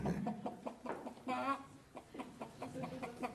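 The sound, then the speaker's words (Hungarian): A captured hen clucks repeatedly in short, fairly loud bursts, with one longer, agitated squawk partway through before the steady clucking resumes. “Elfogtam ezt a szegény tyukocskát, meg két galambot, Ignát Nikanorovics.”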